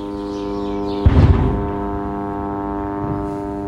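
Military drones buzz in a steady, unbroken low drone with a rich harmonic whine, briefly interrupted by a loud rumbling burst about a second in, then a fainter bump later.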